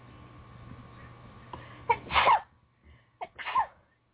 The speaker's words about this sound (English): I'm going to sneeze.